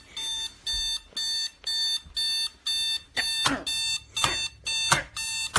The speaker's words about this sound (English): That stupid alarm clock.